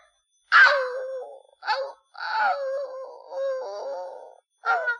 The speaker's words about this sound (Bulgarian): Ама ти за петленцето ли плачеш?